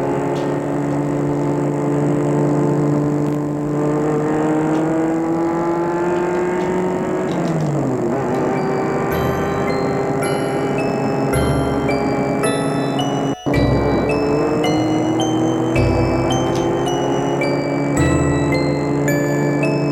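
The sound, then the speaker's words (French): A car engine drones steadily at high speed, its pitch sliding up and down with gear shifts and acceleration, loud, with no voices. “Il roule à vive allure.”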